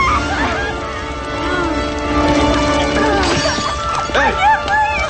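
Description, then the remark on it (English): Windows shatter in a few sharp, crashing bursts amid a burning house, set against a dense, steady background with voices and tonal sounds running throughout. “Outside, the Chinese gang, dressed in black, strides away from the house as its fiery windows begin to shatter.”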